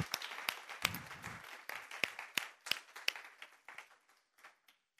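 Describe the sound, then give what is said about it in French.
An audience applauding the Lord, dense overlapping claps with a few sharp louder ones standing out, a brief vocal cheer early on, then the clapping thins and fades toward the end. “On peut applaudir le Seigneur.”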